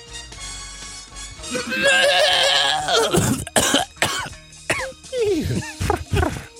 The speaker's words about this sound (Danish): Du hostede direkte ind i mikrofonen. Ja, det var ikke elegant. Det var på ingen måde elegant, jeg beklager.